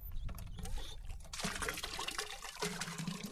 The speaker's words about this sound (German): Ohne sichtbare Anstrengung pumpt er mit der rechten Hand Wasser in einen Eimer.